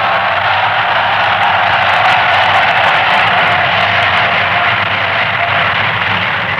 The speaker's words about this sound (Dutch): Dit applaus, dat voer ik af naar Mies. Vind je dat goed, Mies? Dat applaus voer ik af naar jou.